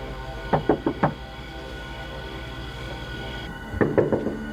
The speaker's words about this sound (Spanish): Ella había tocado a la puerta.